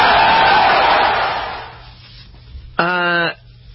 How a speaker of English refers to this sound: Do you think she made the right decision after the crowd in her introduction is applauding for Russia and chanting Putin's name?